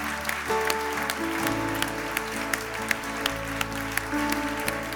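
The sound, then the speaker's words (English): An audience gives the Lord a clap offering, clapping steadily and loudly, a dense wash of hand claps with sharper individual slaps popping out, over a low sustained musical drone and tones. “Est-ce qu'on peut applaudir le Seigneur bien fort?”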